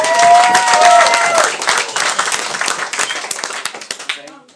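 Audience applause: dense, crackling clapping from a crowd that starts loud, stays steady for a few seconds, then thins out and fades. A brief tonal whistle-like sound rises over the first second.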